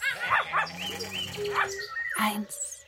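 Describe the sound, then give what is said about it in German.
Several voices of a chorus of performers overlap in a noisy chorus of animal-like calls, with yips, barks and whimpering cries, loud, all crowding together over a few seconds, seemingly people imitating the animals. “Der Chor der Tiere, bitte.”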